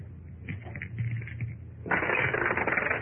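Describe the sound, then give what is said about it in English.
Two dice clatter with a few light clicks and taps, then a dense, rapid rattling as they tumble across a hard surface, moderately loud, with no voices; one die turns up a six. “One of the dice turns up a 6 while the other is thin.”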